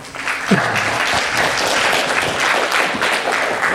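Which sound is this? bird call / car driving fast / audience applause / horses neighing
audience applause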